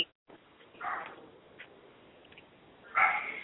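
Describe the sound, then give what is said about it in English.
A small dog gives a couple of short, high yips or whimpers, one near the start and a sharper one near the end, over a faint hiss with no talking. “So we have a book, and I hear a little doggy.”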